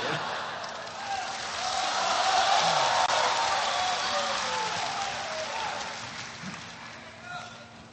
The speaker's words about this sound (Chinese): 谢谢大家稀稀拉拉的掌声。